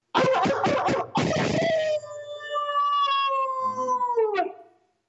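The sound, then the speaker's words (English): A man gives a loud, drawn-out wolf-like howl by voice, opening with rough, breathy yips before settling into a long sustained tone that slowly falls and fades out. “you got a really good howl, and I think you need to share it with our crowd.”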